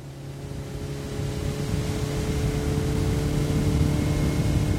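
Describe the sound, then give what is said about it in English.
A boat's motor drones steadily on a lake, a low humming engine with a constant pitch that grows slightly louder after the first second. “takes me by boat for another view of the ranch.”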